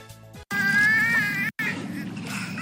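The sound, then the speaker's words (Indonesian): Three dolphins whistle and click in two loud bursts while waiting for fish thrown by their trainer at Kolmården Wildlife Park, Sweden: a high, wavering squeal that rises slightly, broken by a brief gap, over a buzzy, crackling clicking texture. No one speaks. “Dengan suara decakan dan siulan, tiga lumba-lumba itu jelas sedang berkomunikasi sambil menunggu ikan yang dilemparkan oleh pelatih mereka di Taman Marga Satwa Kolmården, Swedia.”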